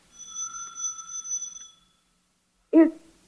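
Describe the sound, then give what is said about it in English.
A policeman rings a doorbell marked Superintendent in an apartment building; it rings with a steady, bright electric tone for almost two seconds, then stops; after a short silence comes a brief, louder muffled sound. “He stops, reads a stenciled inscription on it, and then angrily enters an apartment building and rings a doorbell marked Superintendent.”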